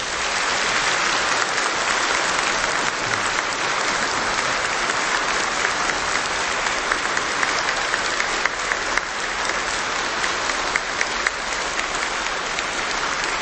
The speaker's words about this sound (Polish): I myślę, że tych, których tutaj nie ma, pozdrowimy oklaskami, żeby usłyszeli.